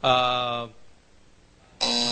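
game show buzzer

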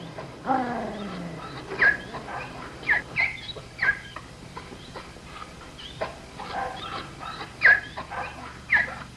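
dog whimpering and yipping

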